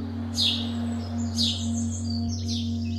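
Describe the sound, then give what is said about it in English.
Birdsong chirps and trills of city birds heard during lockdown, such as wood pigeons, wrens, owls and sparrows, come in three short, evenly spaced bright bursts over a steady low electrical hum with no voices. “In place of rumbling engines and rowdy pedestrians, they could hear the chirps and trills of wood pigeons, wrens, owls, and sparrows.”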